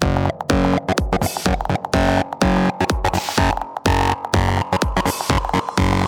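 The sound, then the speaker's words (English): Loud electronic music drenched in heavy distortion, a dense, gritty wall of sound chopped into a steady pulsing rhythm with deep bass and harsh buzzing highs, no voices. “Okay, now we need some fat distortion.”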